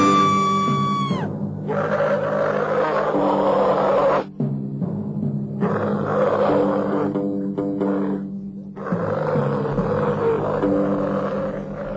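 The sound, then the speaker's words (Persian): Dogs in Basra bark and howl in loud, rough bursts, opening with a drawn-out falling howl, then repeated harsh barking and snarling that cuts off briefly twice before surging back. “گوش کن، سگهای زنده پارس می کنند.”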